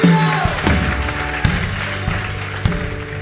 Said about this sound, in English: Come on, somebody, give the Lord a big clap and a shout in this place. Hallelujah! Oh, hallelujah!